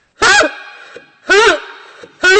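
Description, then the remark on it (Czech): An old Tatra 12 car horn honks three times in a steady rhythm, each blast a short, loud, buzzy tone with a slightly wavering pitch. The last honk is cut off. “A tady ten má taky klakson.”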